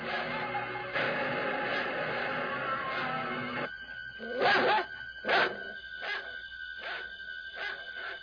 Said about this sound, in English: I'm about to be ripped apart by the family dog.